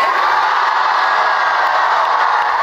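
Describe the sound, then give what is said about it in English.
A large crowd at a Kamala Harris rally in North Carolina cheers and roars continuously, a loud, sustained wall of voices with whoops and shouts blending together, holding steady for the whole stretch without any speech. “Well, the crowd loves to hear that.”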